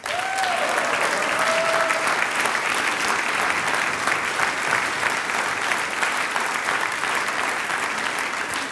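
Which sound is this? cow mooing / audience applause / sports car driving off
audience applause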